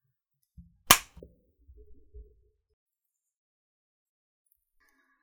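hand clap

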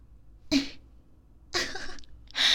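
coughing

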